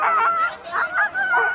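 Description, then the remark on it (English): About 450 excited sled dogs yipping and barking together, eager to run, a steady stream of overlapping high-pitched calls and whines in quick bursts, fairly loud, with no talking. “But when you see the dogs at the starting line just champing at the bit and so excited to run, it's why they're here.”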